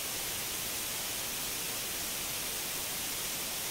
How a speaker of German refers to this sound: Weißes Rauschen, meine Damen und Herren, ist eine technische Erscheinung, die vorkommt, wenn Ihr Gerät keinen Sender erwischt hat. Dann gibt es dieses brillante, helle, weiße Rauschen und diesen sehr unterhaltsamen Störton.